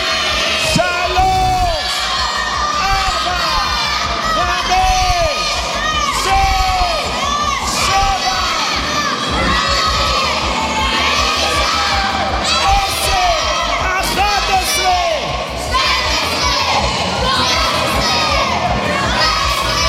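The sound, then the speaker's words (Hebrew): An audience of children at a magic show shouts and cheers loudly and continuously, counting to 20 for the magician, with the loudest to win a box; a dense wall of high-pitched voices with excited whoops rising throughout. “מי שעושה את זה הכי חזק, מקבל את הקופסה הזאת במקום.”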